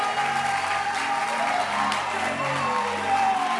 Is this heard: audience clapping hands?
yes